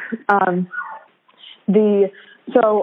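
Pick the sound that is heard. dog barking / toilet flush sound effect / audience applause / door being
dog barking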